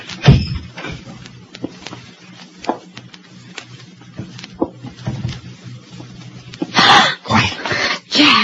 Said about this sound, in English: The intruder walked cautiously across a dimly lit court, past cabins number one, number two, and number three. He stopped at number four. He looked around and quietly tried the door.